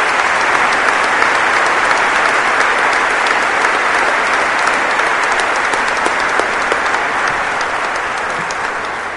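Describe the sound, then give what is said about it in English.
A crowd applauds Tim Hyman steadily, a dense wash of many hands clapping at an even, loud level throughout, easing off slightly toward the end. No one speaks over it. “And all those people who gave to allow that to happen, you'd all be standing up. So applaud Tim Hyman.”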